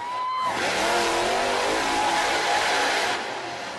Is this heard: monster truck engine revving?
yes